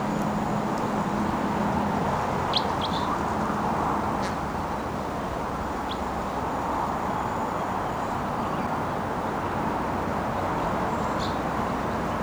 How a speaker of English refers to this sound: I can see one of the wild birds perched in a tree right next to the truck. And it's just out of range for shooting, but it's vocalizing here. Wild bird.